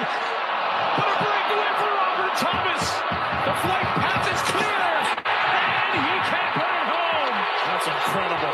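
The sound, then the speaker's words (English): A packed arena crowd roars at a play that swung the momentum to Edmonton, in a loud, continuous wall of cheering and yelling, with many overlapping voices rising and falling and only a brief dip near the end. “I want to hear the crowd go nuts.”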